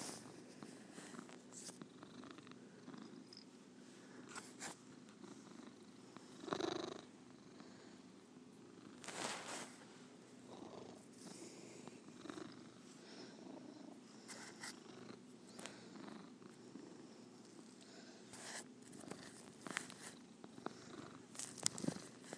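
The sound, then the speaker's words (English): A male cat purrs steadily, a continuous low rumbling rattle with a regular rhythm, broken by a few brief soft rustles or shuffles. “You're a good kitty.”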